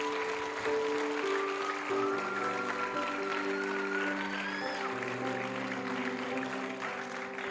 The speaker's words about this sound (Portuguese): Se você orou isso com fé, aplauda Jesus aí onde você está.